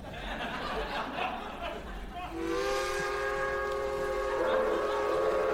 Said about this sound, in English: Is that a westerly train I hear? The rough lullaby of the rail. 'Tis many a bowing soul have fallen asleep to her lowin' land shanty.